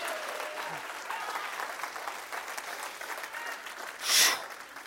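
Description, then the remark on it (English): An audience claps together in sustained applause as a hand clap of praise to God, a dense wash of many hands at steady volume, with a brief louder burst of cheering or whooping near the end. “Somebody give God a hand clap of praise in this place.”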